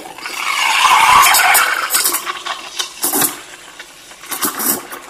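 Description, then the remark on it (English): An espresso machine's steam wand froths and heats milk in a jug, its frother held just on top of the milk: a loud, steady hiss swells over the first two seconds, then breaks into uneven sputtering bursts and hissy gurgles, with no voices. “Frothing away, just got to get the frother just on top of the milk there.”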